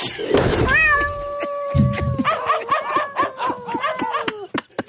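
A cat lets out one long, loud, drawn-out yowl lasting several seconds, wavering and slowly falling in pitch, as it is launched from a catapult, with quick rattling clatter running underneath the second half.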